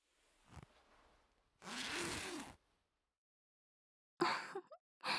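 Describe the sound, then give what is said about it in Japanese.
A bench coat zipper rasps open in one long steady pull, followed after a pause by two shorter, sharper zipping bursts, with no talking. “ほら、ベンチコートのチャック開けて。”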